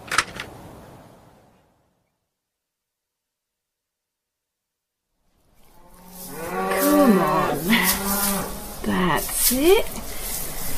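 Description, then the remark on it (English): After a long stretch of near silence, cows moo loudly, several drawn-out, wavering calls overlapping one another and continuing to the end. “Yeah, and there's another couple bagging up nicely. I'll bring them in at milking.”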